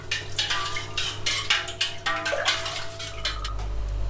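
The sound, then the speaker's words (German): A spoon stirs a lye solution (40 grams of lye pearls in 1 liter of water) in a bowl until it dissolves, with steady, rhythmic scraping and light clinks against the sides, fairly quiet, with a faint ringing tone underneath and no talking. “Das Ganze verrühre ich jetzt mit einem Löffel, bis es sich aufgelöst hat.”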